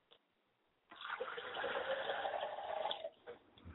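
Water is poured into a glass as a libation offering in a steady splashing stream lasting about two seconds, fairly quiet, then stops with a few small trailing drips. No one speaks.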